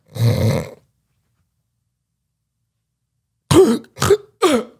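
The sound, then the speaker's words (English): A voice mimics a man's sleep apnea breathing while he sleeps: one rough, snore-like breath, a long silent pause, then three sharp, strained gasps for air in quick succession, fairly loud. “Like would stop for like 20, 30 seconds and then would just gasp. Like gasp for air and then still be sleeping.”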